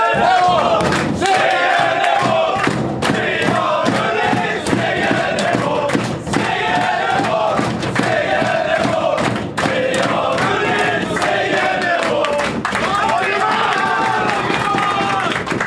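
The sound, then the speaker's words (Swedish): A team loudly chants a victory song in a locker room on a rainy Wednesday evening at the border of Halland and Småland, many voices shouting together in a steady rhythm over thumping beats and stomps, which carry on without a break throughout. “Ja, kan vi dra då lite segersång nu då?”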